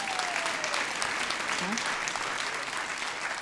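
A steady wash of audience applause, many hands clapping at once in a dense, even roar that holds at a constant level for a few seconds without letting up. The audience applauds to show how many of them saw a band's first appearance on the Ed Sullivan Show.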